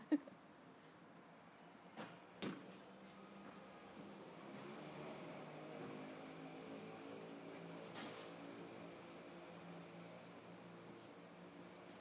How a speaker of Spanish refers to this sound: Una moto alpina derrapante acaba de pasar.